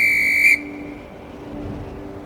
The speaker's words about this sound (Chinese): 云层之上，小雨吹着口哨，让大家围在一起。